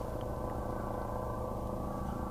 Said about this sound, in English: Is that a helicopter? Oh my God! It's helicopters. This whole drama about helicopters coming to the island, I think, is quite amusing.